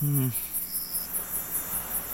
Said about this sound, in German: Hörst du das auch? Wenn du jenes nervenaufreibende Geräusch meinst, welches uns umsurrt, ja, ich höre es auch. Das klingt nach einer Mücke.